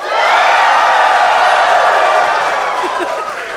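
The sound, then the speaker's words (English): A few voices imitate an excited crowd cheering, as if their favourite team had just won the World Cup: a sustained, bright roar of overlapping high-pitched shouts and whoops that holds steady for several seconds before tapering slightly. “You don't think like a cheer? Like they're just crying with happiness.”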